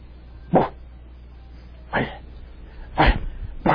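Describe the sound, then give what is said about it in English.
A puppy gives four short, sharp barks at uneven intervals, the last two coming close together, moderately loud, with quiet background between them. “And the only way I can get him to bark, let me see if I can.”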